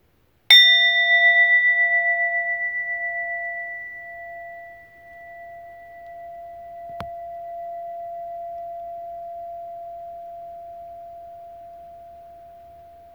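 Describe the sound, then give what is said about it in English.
A single meditation chime is struck once and rings with a clear, sustained tone that slowly fades over several seconds, with a faint click partway through and no voices. “And then listening to the sound of the chime. Listen all the way through.”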